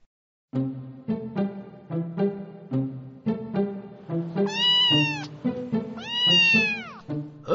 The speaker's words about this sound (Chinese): 怎么会有小猫啊？爸爸妈妈不是说过，我们家不适合养狗猫之类的宠物吗？ 爷爷，小猫是我带来的，它是我朋友的宠物，我朋友要出国去玩半个月，托我照顾它。